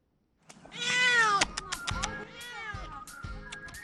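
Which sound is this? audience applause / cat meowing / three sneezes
cat meowing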